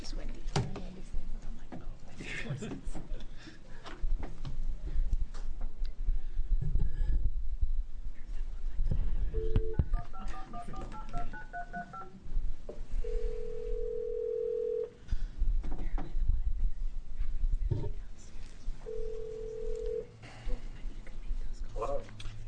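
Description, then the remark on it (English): A phone call being placed to Ashland Mayor John Stromberg during a public session of the House Revenue Committee: a quick run of touch-tone dialing beeps, then two long, steady ringback tones with a pause between, over a murmur of background voices and room noise. “And Ashland wasn't ready to drive, so we're getting Mayor John Stromberg on the telephone.”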